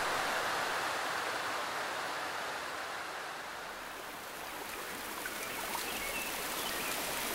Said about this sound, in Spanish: Además, antier estuve oyendo en la radio y dijeron que en estos días dejaba de llover. Pero está lloviendo más.